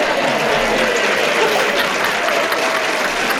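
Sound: audience applause and cheering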